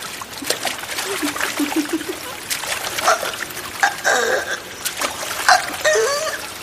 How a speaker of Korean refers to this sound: 물살을 가르는 소리.